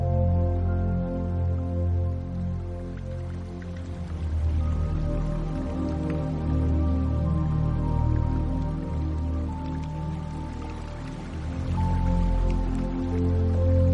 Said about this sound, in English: While resting in imaginative contemplation, return once more to the babbling brook, slipping your fingers into the cool and steady stream. Feel the force of the water in the brook pushing against your hand. Feel the pressure and the resistance.